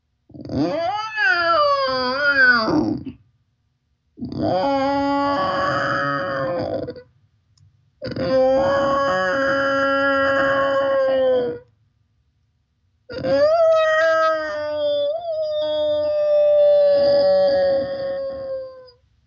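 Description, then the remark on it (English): Human voices imitate whale song in four long, sliding moans and wails, each several seconds with short pauses between, rising and falling in pitch, fairly loud, with no ordinary talking. “So let the whales come through you now.”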